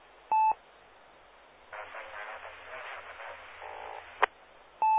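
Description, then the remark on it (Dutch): On an amateur radio net calling CQ Meppel, someone keys up a carrier with no modulation: a steady, hissy open channel with a faint low hum, framed by short, loud electronic beep tones at the start and end. No one speaks. “Ja, er zit er iemand met een draaggolf en geen modulatie.”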